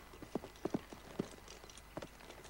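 Horse hooves clip-clop on a hard surface in a loose, uneven rhythm, about half a dozen distinct knocking steps, as the horses are turned back round, with a faint outdoor background and no talking.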